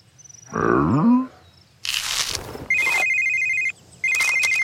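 A phone ringtone sounds in two bright electronic bursts near the end, following a deep cow bellow and a brief noisy rush. Ryder's phone rings with a call from Al at the Moo Moo dairy farm. No one speaks.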